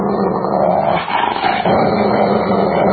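A dog growls and snarls loudly, a rough sustained rumble that briefly dips midway before surging back, with no talking.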